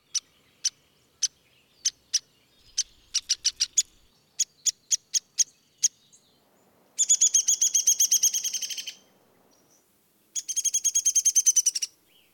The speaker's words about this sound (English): Downy woodpecker.